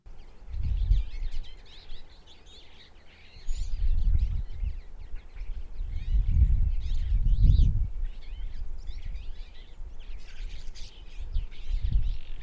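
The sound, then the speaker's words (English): A small twite, a finch, chattering in a busy stream of quick twittering notes over steady low rumbling wind or handling noise outdoors. No one speaks. “Similar to the brambling, the Twite is a passerine bird in the finch family, meaning it has that special shaped beak for eating seeds and nuts.”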